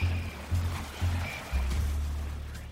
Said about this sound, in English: Then he enjoys the sound of the sea. So this gentle crashing of the waves. And that's what waves do. They crash.